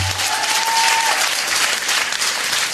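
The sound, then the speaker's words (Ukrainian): An audience at Comedy Club Ukraine applauds at the opening of the show, steady, dense clapping that fills the whole clip at an even, loud level, with a brief faint tone near the start. “Оплески вам!”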